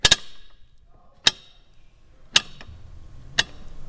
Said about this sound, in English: And then next up is we have the old car jack, which gives us the ticking sound at the observatory.